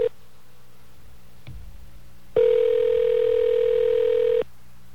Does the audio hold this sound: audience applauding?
no